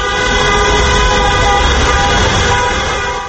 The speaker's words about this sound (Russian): Проезжавшие мимо автомобилисты приветствовали их гудками.